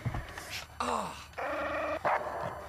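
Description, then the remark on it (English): A dog growls in several short, rough bursts in a TV advert, a CGI dog that comes out of a man's mouth, its snarling voice rising and falling with brief gaps between outbursts. “And the dog growls and shakes.”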